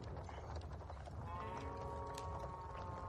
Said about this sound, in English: I'm now in the section of the herd of cows. Okay. So...